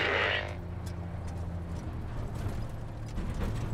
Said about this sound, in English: The diesel engines hum as our convoy nears the coastal town.